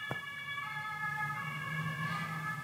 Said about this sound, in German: Wegen der Sirene habe ich gewartet.